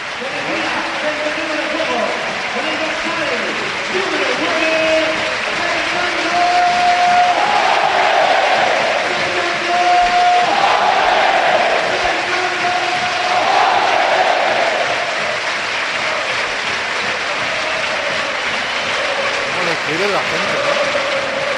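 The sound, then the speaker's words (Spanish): A loud, sustained stadium crowd ovation at the Calderón as Fernando Torres is substituted off for Kevin Gameiro in a match against Celta, a dense roar of applause and cheering with rising chanted tones and whistles swelling midway before easing slightly. “Y esta es la ovación del estadio.”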